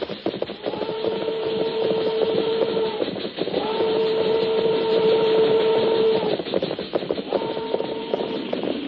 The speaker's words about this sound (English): Train go plenty slow now. Maybe we get on board.